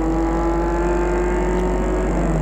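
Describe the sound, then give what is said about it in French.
A car engine hums steadily and fairly loud throughout, a low, even drone with a faint whine, as a car carrying three people drives off in the morning toward a château, leaving Paris in fine weather. No one speaks. “Dans la matinée, Gilbert et les deux garçons partent en voiture pour aller au château des Boches.”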